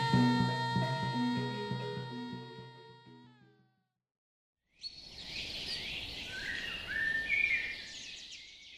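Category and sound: bird, songbird singing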